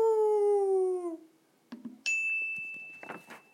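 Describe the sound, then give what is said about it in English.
A person's voice imitates a howl, one loud sustained note that sags slightly in pitch for about a second, followed by a few light clatters and a bright, ringing chime. “My, oh my, she started to howl. Howl!”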